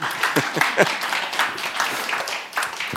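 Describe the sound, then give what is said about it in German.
An audience applauds steadily for a few seconds, a dense wash of overlapping claps at a fairly even loudness with no one speaking over it. “schaut mal auf das T-Shirt und ich finde, das ist nochmal einen richtigen dicken Applaus wert.”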